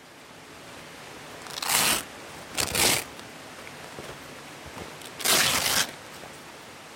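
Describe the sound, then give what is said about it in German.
Stiff PVC plastic fabric rustles and crinkles in three loud bursts as a caver pulls a plastic caving suit on over a warm fleece overall, with quiet pauses between and no talking. “schläuft in seine Höhlenmontur. Über das Faserpelz-Kombi, das warm geht, legt er ein gestabeliges Höhlenkombi aus Kunststoff an, aus PVC.”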